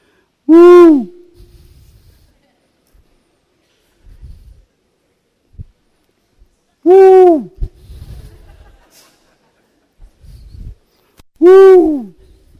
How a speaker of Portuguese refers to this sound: Parece que coruja não está com sono. Ela fecha os olhos assim, parece que fecha.